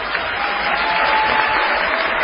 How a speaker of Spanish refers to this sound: para quien pido buenas noches, una fuerte ovación.